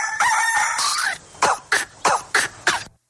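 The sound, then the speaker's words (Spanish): A rooster crows once, a loud, bright cock-a-doodle-doo lasting about a second, followed by five short, sharp, evenly spaced bursts, the morning rooster of the Colombian radio station Radio Activa. No one speaks. “En las mañanas, manda el gallo.”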